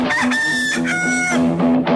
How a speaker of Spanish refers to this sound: Estás escuchando el gallo.